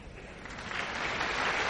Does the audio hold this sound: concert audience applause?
yes